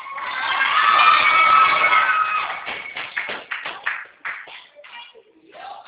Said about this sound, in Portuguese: Moço, você me desculpa, é que eles acabaram de bater a meta do dia e aí eles estão gritando. Me perdoa, viu?